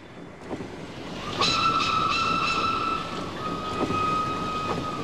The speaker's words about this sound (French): Donc, ce jour du 26 août, nous sommes en Haute-Marne. Cela fait 17 jours épouvantables que nous voyageons, et soudain, nous éprouvons une grande joie, car il fait presque nuit, et le train roule toujours. Il marche, et la nuit tombe de plus en plus.